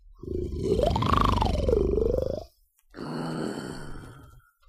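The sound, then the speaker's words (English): Two loud snores with no talking: first a long, rumbling snore whose pitch rises and falls almost like a tune, then, after a brief pause, a rougher, breathier snort. “This band can snore Dixie and old Swanee River so loud it would make 40 elephants shiver.”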